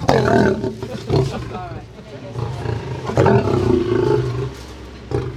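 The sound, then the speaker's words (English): An Asian lion roars loudly and close by, a deep rumbling call that rises and falls in several long grunting bursts, with background voices and crowd murmur underneath. The male lion is being fed raw meat by a visitor about 1 meter away, behind a fence. “At least there's an Asian lion.”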